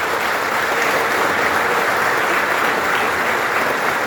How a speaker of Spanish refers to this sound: Agradecerle especialmente a la vicepresidenta de la República que nos acompañe. Agradecerles a todos los ministros de la coalición de gobierno que estén presentes acá. Yo les quiero pedir un aplauso para ellos que están acompañando.